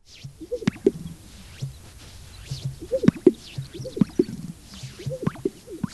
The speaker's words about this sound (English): they also keep a watchful eye on endangered species, like this great sage grouse.